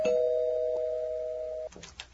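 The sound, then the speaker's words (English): An apartment doorbell rings with a single steady electronic tone held for well over a second, then cuts off into a few brief muffled knocks and rustles. “Me answering the door to you, huh?”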